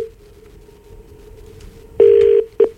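Telephone call sound: a faint steady line tone, then a loud ringback tone in two pulses, one long and one short, with no voices, as a radio host phones the former lead guitarist of a band.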